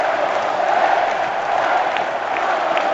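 Steady, dense applause from a large stadium crowd of football fans as the players go to the centre of the pitch after a derby between Sporting and Real Oviedo, a continuous wash of clapping with a faint murmur of cheering underneath and no clear voices standing out.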